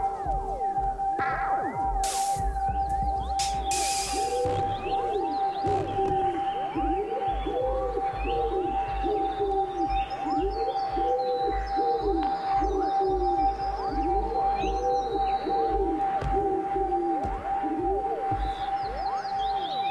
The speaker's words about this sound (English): Pigeon, Columba Columbus, song.